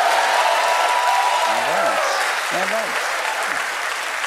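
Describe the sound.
A studio audience claps loudly and steadily throughout, a dense wash of applause with a few voices rising briefly from the crowd, applauding Stephen Colbert.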